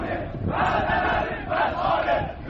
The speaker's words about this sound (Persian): اونها در اعتراضهایی که ویدیوهاش در شبکه‌های اجتماعی دنیای مجازی منتشر شد شعار می‌دادند سدها رو بشکنید و ارومیه رو پر آب کنید.